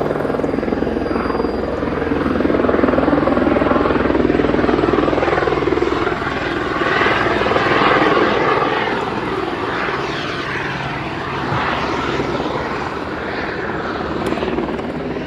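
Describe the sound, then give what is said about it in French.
A helicopter flies by, its loud, continuous rotor and engine roar holding steady for the whole stretch with a rough, pulsing texture and no break. “Quand les conditions ne sont pas suffisantes pour l'hélico, eh bien, c'est la SNSM, c'est le canot de sauvetage de la SNSM qui se substitue à l'hélico et qui fait le transport sanitaire.”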